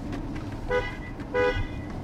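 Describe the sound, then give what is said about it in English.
Two short, evenly spaced horn toots from an Aston Martin, the James Bond car, over a steady low engine rumble, with no one speaking. “James Bond would never use the hooter, would he?”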